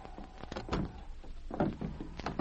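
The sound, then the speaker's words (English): A door is opened with a series of low thuds and rattling clunks, the handling noises coming in irregular bursts over a couple of seconds with no one speaking. “They're opening the door now.”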